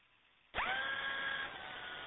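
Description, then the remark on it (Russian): A sudden whirring, drill-like mechanical noise kicks in and holds steady with a tonal whine, sounding narrowband and radio-filtered: someone's hand drill at a dacha, picked up and transmitted over the radio during a pause in transmission; no one speaks. “Да кто-то дрели ручную транслирует в эфир.”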